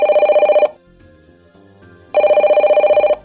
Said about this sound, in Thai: ใครน่ะช่างโทรมาได้จังหวะอารมณ์เสียอยู่พอดี